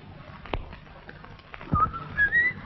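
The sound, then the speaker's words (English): A man whistles a brief, wandering melody in a studio, the notes rising in the last second, after a couple of sharp knocks in otherwise quiet surroundings. “She wanders through the studio as he whistles.”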